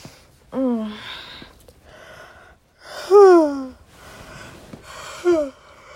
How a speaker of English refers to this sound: I can't stop yawning.